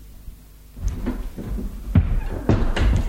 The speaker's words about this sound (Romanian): ușa se deschide și în prag apare un tânăr.